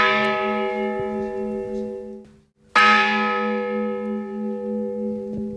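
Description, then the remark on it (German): The bell of a church destroyed in the German air raids rings out at the cemetery of Guernica in Spain's Basque Country, loud and clear, two resonant strikes about three seconds apart, each leaving a long, shimmering hum that slowly fades. No one speaks. “Die Glocke einer Kirche, die damals zerstört wurde, läutet.”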